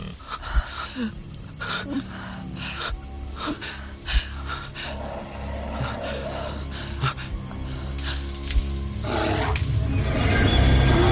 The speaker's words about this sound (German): Der Bär hetzte auf allen Vieren auf sie zu. Ein schwarzer, mächtiger Schatten im Nichts.